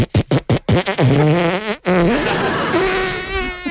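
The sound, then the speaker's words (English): A fart noise: a quick string of five or six sputtering pops, then a long, loud, buzzy blast that wavers and bends in pitch before trailing off. No one speaks. “Thank you to everyone who played Prelude to a Fart.”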